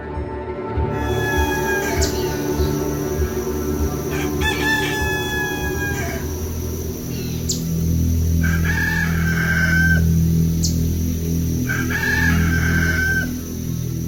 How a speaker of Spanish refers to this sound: El canto del gallo indicaba que ya era domingo